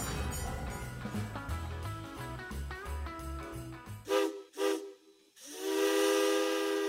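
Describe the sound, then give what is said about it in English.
A train whistle of the Mount Hood Railroad's The Train to Christmas Town, in a radio advertisement, blows two short breathy hoots, then a long, steady, hissing blast, following a few seconds of music with a steady beat. “There's a whistle in the distance, a trembling in the air.”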